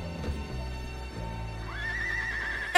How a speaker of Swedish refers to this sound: Och så kommer hästen.